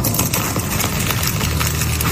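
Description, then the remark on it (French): Katy Perry crunchily biting into a croissant bigger than her head, in Paris: a run of crackly, flaky crunches repeating irregularly over a steady low hum, loud and continuous with no talking. “Oh ben, tu l'as entendu, rendu là, c'est une croquée. Dans un croissant.”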